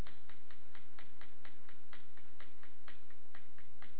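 A clock ticks steadily and crisply, about four even ticks per second, clear over a faint low hum, with no voices.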